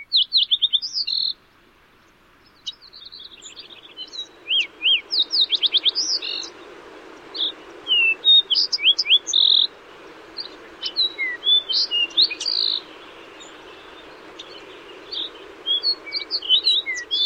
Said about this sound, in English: And fox and Lincoln's sparrow.